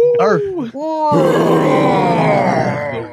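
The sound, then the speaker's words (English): A brief gliding vocal sound gives way to a loud, sustained, raspy roar lasting about two seconds, forceful, fading slightly at the end. “It is time for our roar of the week.”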